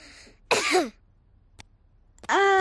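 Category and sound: human body sound, cough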